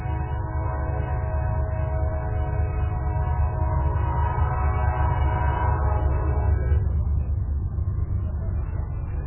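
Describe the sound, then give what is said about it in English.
A train rumbles loudly past across the street in South Central Blaisdell, its long, steady horn blaring for several seconds before cutting off while the heavy rolling noise of the cars continues. “I work right across the street, so we're going to wait for the train to go by.”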